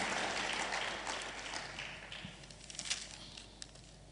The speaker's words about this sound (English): Clap unto the Lord. Hallelujah.